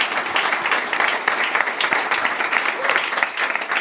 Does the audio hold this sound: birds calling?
no